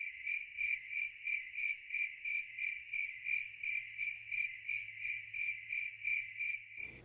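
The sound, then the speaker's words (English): A cricket chirps steadily in rapid, evenly pulsing trills, clear, with a faint low hum beneath and no voices. “Ever since they changed the mobile device to show their shitty news algorithm first, crickets.”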